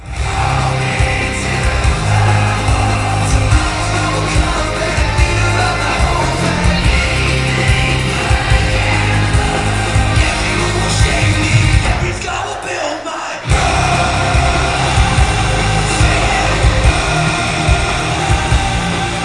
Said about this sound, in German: Ja, also wie man da hört, war das Publikum bei dem Song auch schon ziemlich textsicher.